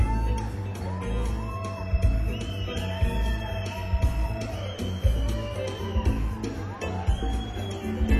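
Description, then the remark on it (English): A large crowd roars and cheers continuously, with whoops and shouts rising above a dense wash of noise, an audience on the final night at the Town and Country Club greeting a performer. “We'd like for you to give a warm round of applause”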